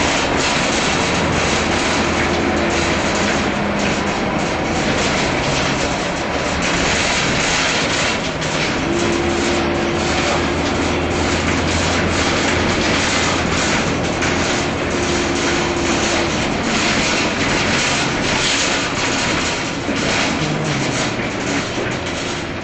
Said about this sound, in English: We're getting on the off-ramp to get into Union Station now. Once I get off, it's a bit noisy on this bus, but once I get off, I will give you a little background about Union Station.